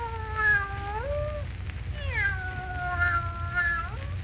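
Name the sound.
cat meowing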